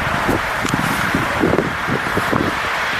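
Steady, hushed outdoor ambience in Bretún, a village of 17 inhabitants in the Tierras Altas district, dominated by soft wind hiss and a faint low rumble, with occasional light rustles and no voices, birds or insects breaking the stillness.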